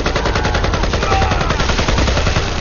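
Rapid bursts of gunfire from battered assault rifles crackle continuously, dense overlapping shots, loud, with no pauses or voices.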